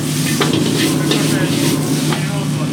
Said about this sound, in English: What is this delicious thing that's being fried right now? Yeah, you're right now frying the chicken, tomatoes, napa cabbage, and the mushroom, the garlic. This is very important for the hand-cut pearl chow mein. Lots of garlic.